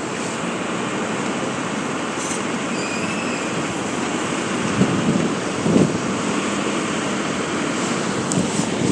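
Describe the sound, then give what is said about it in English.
Busy Manhattan street traffic makes a steady, unbroken roar, with a couple of brief louder bumps about halfway through. No voices stand out above the noise. “Sometimes you have to wonder how traffic moves at all in Manhattan.”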